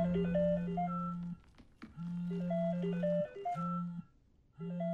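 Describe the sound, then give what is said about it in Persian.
A phone rings with an incoming call, a bright melodic ringtone playing a repeating jingle of tones over a steady low drone in several bursts with short pauses between them. “وای نه، ممکنه بریتنی باشه. تلفن تماس رو به صورت اسپیکر جواب بده.”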